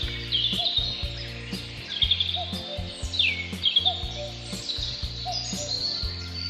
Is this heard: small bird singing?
yes